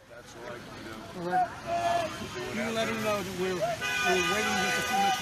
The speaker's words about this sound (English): Signs, indict Hillary, probe Hillary, equal justice, and the horns are going off.